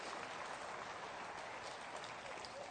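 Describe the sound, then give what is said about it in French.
A crowd of people clapping together during a sermon, applauding the peace of God, in steady, dense applause that holds at an even level for the whole stretch, with no voices breaking through. “Applaudissez cette paix de Dieu.”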